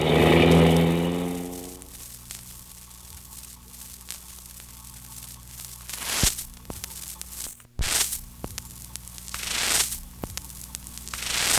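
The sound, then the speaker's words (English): Street traffic, opening with a loud car engine accelerating and roaring, then fading, followed by several cars whooshing past one after another over a steady hiss of road noise. No one speaks. “He's running out into the traffic.”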